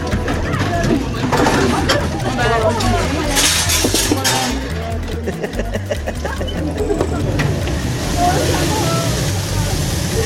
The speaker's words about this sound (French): Je range toute ma vaisselle.